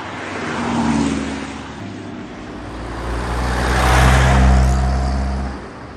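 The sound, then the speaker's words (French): Steady, busy road traffic on the Rambla de Catalunya by a bull sculpture, with engines rumbling and cars sweeping past; a louder vehicle swells and fades near the end. No voices. “Oh, mais quelle circulation!”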